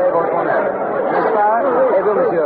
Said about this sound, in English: I'm standing approximately dead center of the Place de la Bastille, right in the very heart of this massive mob of people.